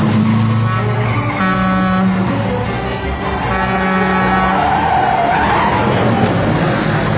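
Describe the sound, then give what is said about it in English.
A loud car engine revs with strained, shifting tones and a squeal of tires as the car brakes hard on a one-way street and is then put in reverse, with no voices over it. “Apply the brakes. Now put it in reverse.”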